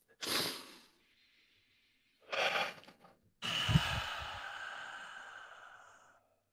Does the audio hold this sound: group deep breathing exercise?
yes